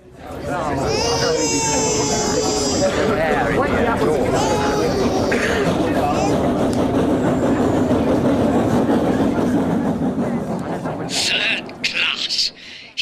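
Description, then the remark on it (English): A train rolls steadily along the rails with a dense rumble and rhythmic clatter, high wailing tones rising over it early on before the noise fades out near the end. “There's a train in 20 minutes.”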